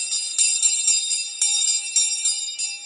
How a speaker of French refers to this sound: On dit également qu'on entend le son des cloches juste après que le Père Noël soit passé.